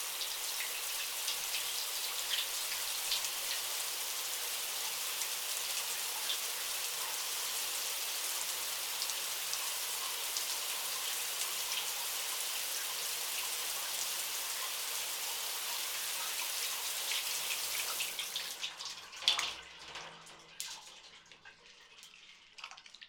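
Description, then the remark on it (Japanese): A shower sprays in a steady hiss for about eighteen seconds as shampoo is rinsed from hair, then cuts off, leaving a few scattered drips and splashes. No one speaks. “一度シャワーで流して、もう一度シャンプーをつけよう。”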